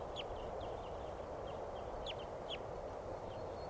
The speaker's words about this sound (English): Flock of crossbills in the tree here.